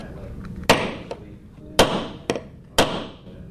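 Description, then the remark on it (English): Hammering nails while a 17-year-old high school student in Virginia Beach, Virginia, builds a mousetrap car: four sharp strikes at uneven intervals, each ringing out briefly before fading, over a low, steady murmur. “at Ocean Lakes High School in Virginia Beach is making a mousetrap car, and there's a lot of sawing and nails and talk of wheel alignment involved.”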